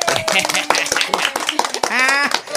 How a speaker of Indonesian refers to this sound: Mana tepuk tangannya nih buat aku nih?